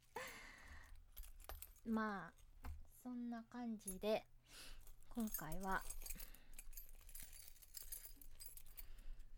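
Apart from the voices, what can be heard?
keys jangling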